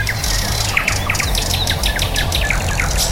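Small tits chirp busily, a rapid scatter of short, high tweets from several birds overlapping throughout, set against a steady low outdoor rumble.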